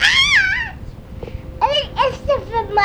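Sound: cat meowing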